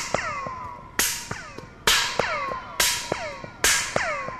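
Four sharp hand claps at a steady pace, each answered by a train of quick, descending laser-like chirps as the sound echoes back and forth down a galvanized metal tube about 180 feet long. The tube stretches from the mezzanine of the Exploratorium up into the rafters.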